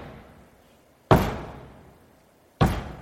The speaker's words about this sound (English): in the book of Revelation, chapter 3, there's a picture of Jesus knocking on the door of a house. And it says this, he's knocking.